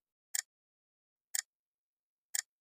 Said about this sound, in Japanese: 時計の針が規則的に時を刻みます。時計は無常ですね。機械的に時を刻むだけ。